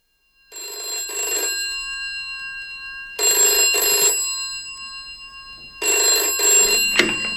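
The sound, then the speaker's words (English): An old-style telephone bell at a farm rings loudly in three long bursts separated by short pauses, with a faint clatter near the end as the ringing continues. No one speaks. “Dan, the phone's been out of order all day”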